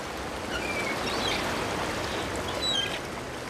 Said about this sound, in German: Morgenidylle am Strand von Malibu in Kalifornien. Die Möwen sind schon wach, so wie einige Surfer. Der Strand ist verhältnismäßig sauber.